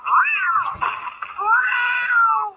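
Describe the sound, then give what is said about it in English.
A cat stuck in a tree meows loudly and insistently in two long, drawn-out wails with a brief break between them, strained, like a distressed caterwaul. No one speaks. “My old partner stuck in a tree? Oh, I don't care how corrupt you were, no kitty deserves this.”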